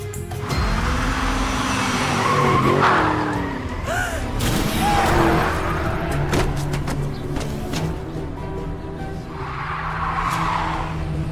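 A car's tires squeal in a long skid, followed by a burst of sharp impact sounds. The engine and road noise stay loud and close throughout.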